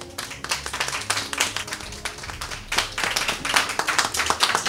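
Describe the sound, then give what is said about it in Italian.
A small group in Rome applauds itself at the end of a group storytelling session, clapping steadily for several seconds in a dense patter of overlapping hand claps with no voices, rising slightly and holding at a moderate level throughout. “Bravi, fatevi un applauso!”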